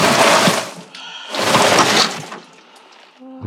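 Two loud, hissing bursts of harpoons fired underwater, like compressed air blasting out, each about a second long, with a brief metallic ringing between them and a faint ringing tail at the end.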